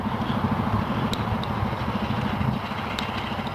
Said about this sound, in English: This guy, this trash truck has been all over the neighborhood this morning, but I haven't seen it pick up a single piece of trash.